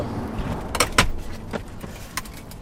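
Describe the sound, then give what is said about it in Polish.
Metallic clicks and clunks at uneven intervals as two wheelchair wheels are detached and the whole frame is laid on the car seat after the Seven Stars Paraboxing gala, with faint rustling and handling noise between the sharper knocks. No one speaks. “Przysiadam się do auta, odczepię dwa koła i cały korpus wózka, całą ramę kładę do auta na siedzenie.”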